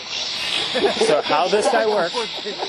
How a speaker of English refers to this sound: So how this guy works is it'll sweep through the radio stations, as you can see. And if we're real silent, then we can actually hear it clicking through the different stations. Very hard for a voice or anything to come through.